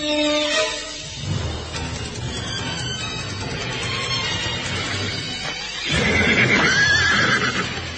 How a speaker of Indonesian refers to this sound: Empat ekor kuda itu semakin dekat, dan tanpa sengaja berhenti tidak jauh dari tempat Sakya Murti bersembunyi.